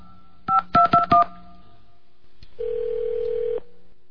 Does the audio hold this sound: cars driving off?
no